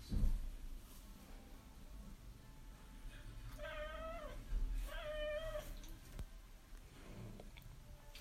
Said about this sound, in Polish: Tak oto, proszę państwa, się nasz kot rozmiałczał. Bo się nagle mu zachciało wychodzić na dwór.